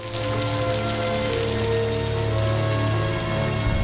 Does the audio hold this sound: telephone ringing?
no